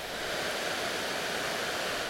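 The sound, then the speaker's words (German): Loud, steady roar of water pouring over the weir on the river Leine, a dense continuous rushing hiss filling the whole clip without a break, unvarying, with no voices. “Das Wasser tost genauso laut wie Autos.”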